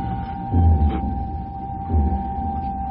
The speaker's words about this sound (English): directed through a darkened building which throbs to the sound of generators. The journey ends outside the closed door of an interrogation room.